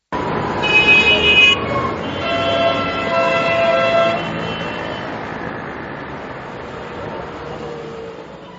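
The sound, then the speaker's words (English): Several car horns blare and overlap in the first few seconds over a steady rumble of traffic jammed on the streets of Tehran or another major Iranian city, then the honking drops away, leaving the low street noise fading behind. “The streets of Tehran and other major cities are a motorist's nightmare. In the nearly omnipresent traffic jams, the rich, many of whom became wealthy from oil money, drive gas-guzzling luxury cars.”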